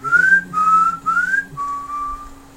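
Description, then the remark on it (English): Someone whistles a TV show theme tune: four sustained notes, the first three sliding slightly upward, the last lower and steadier. No talking, just the clear, fairly loud whistle. “I can't whistle right”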